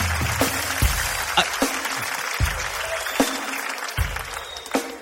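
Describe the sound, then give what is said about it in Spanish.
An audience applauds steadily for several seconds, a dense crackle of clapping with sharper individual claps popping out, while faint voices murmur underneath. “Un fuerte aplauso por para favor.”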